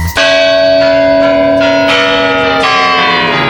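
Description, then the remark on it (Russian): Clock tower chimes strike at New Year, ringing out a slow sequence of about six loud, resonant bell strikes at uneven intervals, each tone sustaining and overlapping the next, with no voices. “Никто, конечно, не отменял обязательные обряды типа выпить пепел от сгоревшего желания на бумаге и подбой курантов.”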